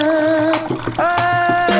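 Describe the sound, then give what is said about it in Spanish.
Steady rushing river water flows continuously and loudly, with a sustained tonal melody playing over it that shifts pitch about halfway through. “Agua.”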